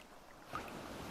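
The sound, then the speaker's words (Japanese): Soft, continuous lapping of water with a gentle swell, a faint rise in the middle then steady, quiet washing. No voices. “ほら、水面が波打ってきたね。”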